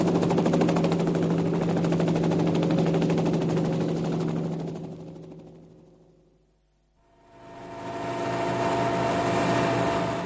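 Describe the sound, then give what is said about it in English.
A helicopter revs up to take off with a loud, rapid rotor chop over a droning engine. The noise fades almost to silence partway through, then surges back as the rotor spins up again. “what the hell do you think you're trying to do, land this helicopter on my place?”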